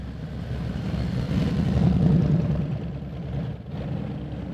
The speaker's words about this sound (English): More than a dozen motorcycles are thundering down Riverside Avenue as onlookers, many with tears streaming down their faces, wave flags and salute the hearse carrying 17-year JSO veteran